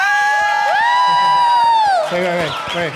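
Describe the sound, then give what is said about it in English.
A live audience cheers loudly, with long sustained whoops and yells that swell and then break into scattered shouts, with some clapping mixed in underneath. “The clapping is drowning out the thing.”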